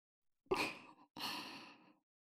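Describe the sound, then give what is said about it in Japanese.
Two soft, warm breaths blown into the ear, one after another, airy and breathy with a gentle whoosh, heard alone with no talking. “まず最初はこのかわいいかわいいお耳、たくさんふうふうします。”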